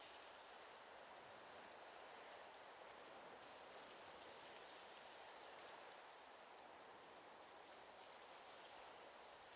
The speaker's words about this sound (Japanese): さあもっとリラックスしましょう。ゆっくり深呼吸して、海の音を聞いてちょうだい。そして私たちを包み込む海の大きな愛を感じてほしいの。